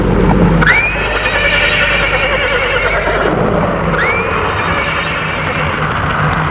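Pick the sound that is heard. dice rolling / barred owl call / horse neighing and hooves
horse neighing and hooves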